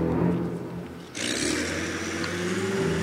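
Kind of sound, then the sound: vehicle, truck engine driving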